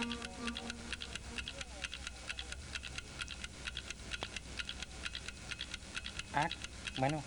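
A clock ticks steadily and quickly for several seconds, each tick crisp and evenly spaced, with a brief vocal sound rising over it near the end.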